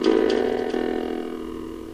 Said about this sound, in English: So kind of a deep sound here. So there's your default on that button 5. The sort of bells or vibraphones, whatever it is.